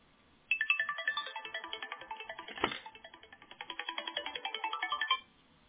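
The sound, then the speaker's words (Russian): A phone ringtone from an incoming call plays a bright, repeating electronic melody of quick rhythmic notes for about five seconds, fairly loud, with a brief click partway through and no voices. “там чуть ли из космоса звонит.”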